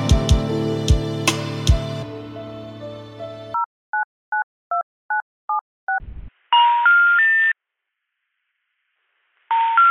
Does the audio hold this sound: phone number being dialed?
yes